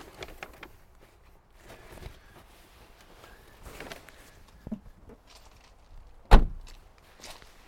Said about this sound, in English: That's my squeaky boot on the electric car, which is an e-Niro.